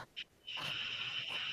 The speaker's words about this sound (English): as I'm like peering out into the vast ocean of water, I'm just like breathing really, really heavily breathing.